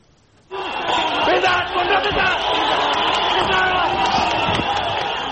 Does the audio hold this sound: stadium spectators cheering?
yes